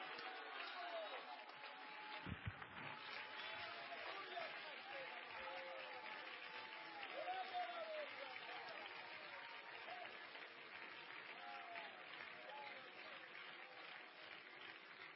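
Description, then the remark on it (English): A church audience at a revival service claps steadily and shouts together, a dense, continuous wash of applause with voices rising through it, sustained and fairly loud for the whole stretch. “Stand up, clap your hands, and shout, I need a revival.”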